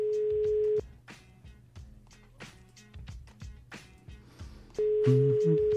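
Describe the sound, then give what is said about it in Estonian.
An outgoing phone call's ringing tone, placed by the Tre Raadio morning programme to a birthday person: a steady, mid-pitched electronic beep at the start, a long pause filled with faint background murmur, then the same loud tone repeating at the end. “Aga nüüd vaatame, kas sünnipäevalaps meie kõnega vastu võtab.”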